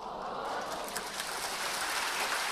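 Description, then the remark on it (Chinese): Steady, dense audience applause at a lecture fills the whole stretch, a continuous crackling wash of many hands clapping at a fairly even level with no talk over it. “啲掌声都唔使数几多下嘅，唔使数几多分嘅。”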